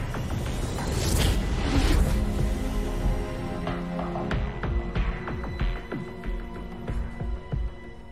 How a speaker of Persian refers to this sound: صدای انفجار رو شنیدم. به آلفا برخورد کرد.